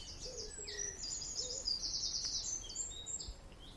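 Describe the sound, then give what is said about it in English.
A chaffinch calls repeatedly with high, sharp notes, including a quick run of rapid chips in the middle, over quiet outdoor background with a few soft low notes beneath. “If it's that frequent, it'll be a chaffinch.”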